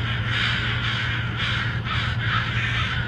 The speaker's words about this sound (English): So I grabbed that and a few other crow noises for this episode from Dr. Swift's YouTube channel, which has so many good videos and will be linked via the show notes.